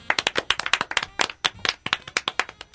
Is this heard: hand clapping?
yes